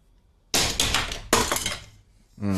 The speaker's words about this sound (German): Kaputt, oder? Ich habe den auf meine Computermaus geschmissen. Jetzt geht jetzt meine Computermaus kaputt.